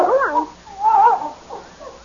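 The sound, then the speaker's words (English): A dog whimpers in a few short, high, wavering whines, rising and falling in pitch with brief pauses between them. “Say, that's quite a dog you got.”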